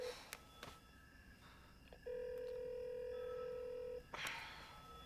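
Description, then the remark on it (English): A few quick button clicks as the callback button is pressed on a telephone, then a steady electronic dialing tone holds for about two seconds before cutting off, clear against a quiet background with no talking. “He presses the callback button.”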